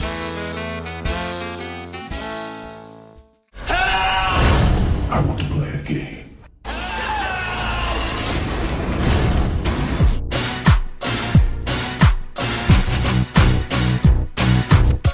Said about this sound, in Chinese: 好啦，今次电脑大爆炸有嘢益各位听众啊， 系嘛？听到呢段特别嘅 jingle 都知道出事啦。